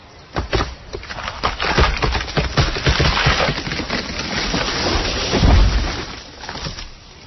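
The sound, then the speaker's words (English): A tree in a forest splinters with a rapid series of sharp, loud wooden cracks, then crashes down with a heavy, low thud before the noise settles. No one speaks. “If a tree falls in the forest and no one is around, does it make a noise?”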